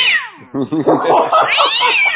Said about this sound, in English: What a noisy cat you got there.